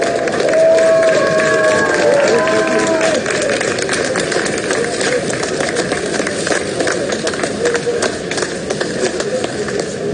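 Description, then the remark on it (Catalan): Scattered applause from the few remaining people and workers at the end of a Tour de France cycling stage in Tignes on a Sunday, about 1 hour 24 minutes after the stage finish. Steady claps patter throughout over a dense outdoor crowd murmur, with a brief whistling tone early on. “Són els aplaudiments de la poca gent que quedava, els pocs operaris que quedaven al final de l'etapa d'aquest diumenge a Tinyes, 1 hora i 24 minuts després del final de l'etapa.”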